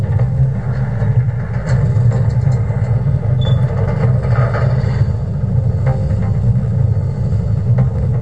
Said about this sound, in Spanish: Vamos a dar Enter. Está el ascensor moviéndose. Luego de que termine el ruido del ascensor, van a escuchar los pasos de la gente que se mueve para la celda.